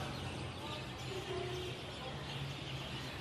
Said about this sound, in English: She was stunned by how loud the birds were as dusk fell.